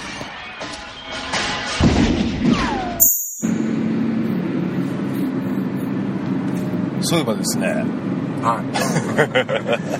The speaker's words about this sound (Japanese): まあ今帰りの車内なんですが、ね、ちょっと話でもしようかなと。